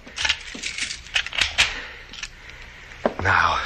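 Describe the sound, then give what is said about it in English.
Bright metallic jangling and clinking of keys, with a few sharp clicks as a door is locked from inside, ending in a firmer clunk and a short scraping sound. “I will lock it.”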